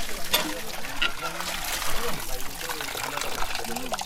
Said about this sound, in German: Seine Frau ist gerade dabei, eine große Wassermelone für die Gäste zu waschen.